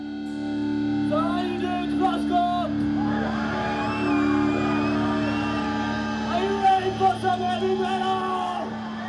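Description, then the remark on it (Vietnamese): Heavy death and thrash metal from a Johannesburg band plays loudly at a music festival, with a thick, droning, detuned distorted guitar wall and altered drums under deep growled and shouted vocals, and what sounds like a crowd roaring along throughout. “chơi dòng death and thrash metal, là hai nhánh cực kỳ kích động của thể loại heavy metal, thường dùng những cây guitar đã được chỉnh biến lại với những tiếng hát trầm, tiếng gào và tiếng trống đã được cải biến.”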